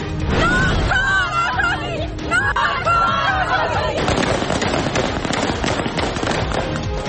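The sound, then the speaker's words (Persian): Rapid, dense bursts of gunfire shot into the air crackle loudly and almost continuously, with raised crowd voices shouting over the first few seconds before the shots dominate, at a women's protest gathering in Kabul, Afghanistan, as Taliban forces violently disperse the protesting women. “و شلیک تیر هوایی در تجمع زنان در کابل.”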